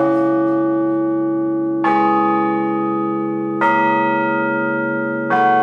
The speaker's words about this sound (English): The ringing of bells is common enough.